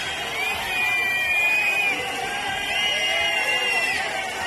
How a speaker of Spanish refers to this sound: Era el estreno de Pedro Sánchez como presidente del gobierno acudiendo a este Día de la Fiesta Nacional y era recibido con abucheos, el calificativo de ocupa y también petición de elecciones.